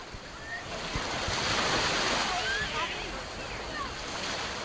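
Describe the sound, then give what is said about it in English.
Steady, rushing wash of waves breaking on a sandy beach of the Bay of Palma, Mallorca, Spain, a continuous broad hiss that swells slightly midway, with faint voices and calls of children playing drifting over it. “Children play along the sandy beaches of the Bay of Palma. Sunbathers stand up, stretch, and run into the sea to cool off.”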